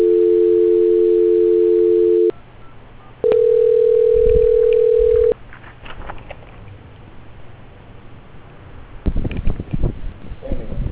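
A steady telephone tone sounds for about two seconds while a phone call is being transferred, stops, then a second steady tone at a slightly different pitch plays for two seconds before giving way to line noise and faint clicks.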